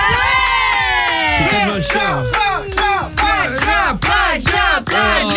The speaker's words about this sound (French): Je veux un tonnerre d'applaudissements, les amis,